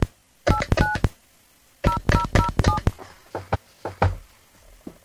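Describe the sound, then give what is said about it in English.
Touch-tone telephone dialing as a radio host calls back a guest whose line dropped: quick bursts of short, dual-pitched keypad beeps in two clusters with a brief pause between, followed by a few fainter clicks and tones, with no talking. “Let me give him a call back.”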